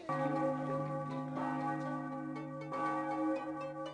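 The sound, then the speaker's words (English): Church bells ring out steadily in overlapping peals at about 8:25 in the morning, around the end of morning mass, loud and resonant, with fresh strikes landing about every second and a half over a sustained ringing hum. No one speaks. “Those bells.”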